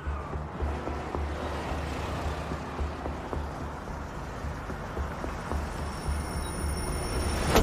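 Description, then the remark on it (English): An SUV's engine rumbles low and steady as it pulls slowly into a parking lot, with a few faint clicks and tire noise over the hum, swelling slightly at the end. No one speaks. “In her SUV, Linda pulls into a parking lot.”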